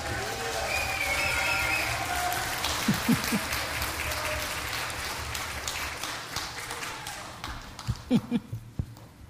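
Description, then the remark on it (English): An audience bursts into sustained applause for the Lord, a dense wash of many hands clapping that gradually thins out, leaving a few scattered, sharper claps at the end. “You guys should be standing on your feet applauding the Lord like crazy.”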